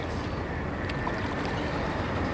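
Steady wash of water around a small boat being paddled towards the city across calm San Francisco Bay at sunrise, a continuous hiss and lapping with no distinct paddle strokes and no voices.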